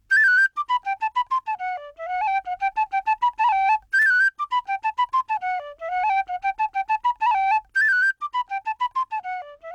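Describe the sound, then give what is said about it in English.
A penny whistle, played by a flautist, plays a lively, bright melody of quick, tongued notes, repeating a lilting phrase several times. It sounds clear, played solo with no voices. “But usually I have one of the world's cheapest instruments about me too.”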